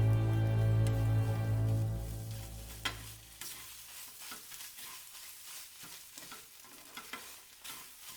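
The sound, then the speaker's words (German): Hot fat sizzles and crackles in a frying pan as Mutzenmandeln (fried pastries) are lifted out with a slotted skimmer, loud at first with a low steady hum, then thinning into scattered pops, drips of fat back into the pan and small clinks over a quieter hiss. “das überflüssige Fett rann aus den Mutzenmandeln heraus und von ihnen ab, und durch die Löcher des Schaumlöffels hindurch wieder zurück in die heiße Pfanne.”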